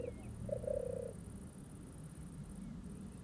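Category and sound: bird, european turtle dove cooing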